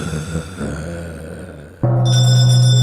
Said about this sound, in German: So, das war's. Wir läuten die Glocke zur letzten Runde.